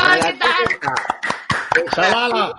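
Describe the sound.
A handful of sharp hand claps land at irregular moments while voices talk loudly and continuously over them; the claps are brief and partly buried in the chatter.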